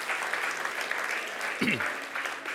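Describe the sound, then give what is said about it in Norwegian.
A church audience applauds for Jesus at the end of a sermon, with steady, dense clapping throughout, a crackling wash of many hands, with a brief voice rising and falling midway through. “Gi en applaus for Jesus.”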